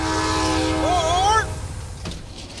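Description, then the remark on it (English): The Coast Starlight passenger train, which runs from Los Angeles to Seattle, rumbles steadily along the rails while a loud, wavering horn blares for about a second and a half, then fades, leaving the rolling mechanical clatter underneath. “For my summer vacation, I climbed aboard the Coast Starlight and rode all the way from Los Angeles to Seattle.”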